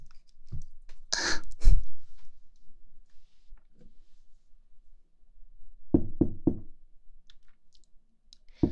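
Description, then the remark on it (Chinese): Knocking on a door: a couple of loud thumps early on, a long quiet pause, then a quick, even run of three knocks. No one speaks. “开门啊！”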